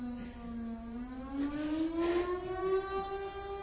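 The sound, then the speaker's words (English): A town civil defense siren in Grayton wails steadily, its tone slowly climbing in pitch, with no one talking. “There have been whole town meetings in Grayton about the siren, about too much siren, too loud, too often.”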